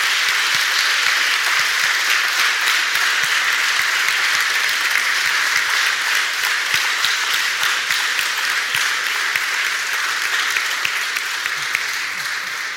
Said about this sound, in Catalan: Així que un fort aplaudiment per tots tres.